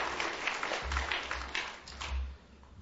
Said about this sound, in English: Man, the first time I ever found a group of people appreciating with clapping in this country. I want to come back another time.